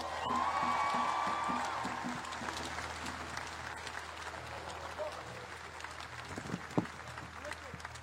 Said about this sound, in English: Can everyone give him a round of applause?